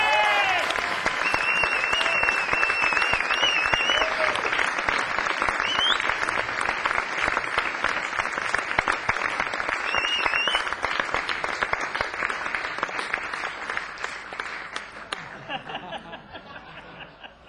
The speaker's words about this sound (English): Please give a big hand for the wonderful singer-songwriter